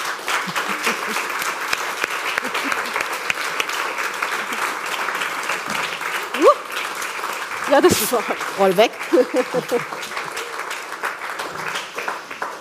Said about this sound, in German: Und ich würde sagen, jetzt holen wir sie auf die Bühne. Mit einem warmen Applaus, bitteschön.